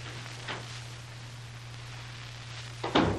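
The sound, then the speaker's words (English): A door is eased open quietly, with a faint soft click early on and a short louder latch-and-creak near the end, all over a steady low hum. “I'll edge up near the door and open it quietly.”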